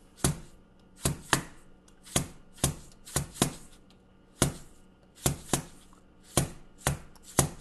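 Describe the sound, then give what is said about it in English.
A plastic jar of sesame seeds is tapped against a counter about a dozen times in an uneven rhythm, each hit a dull, gritty thump with a brief rattly, shaken tail. No one speaks. “I'm actually just hitting the counter. This is the I think this is just a plastic jar full of sesame seeds.”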